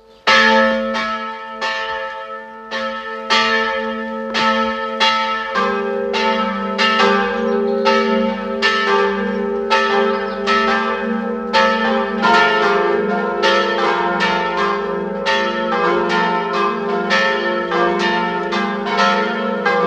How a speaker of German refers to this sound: Es ist 12 Uhr. Es läuten die Glocken der Pfarrkirche Werfenweng, Land Salzburg.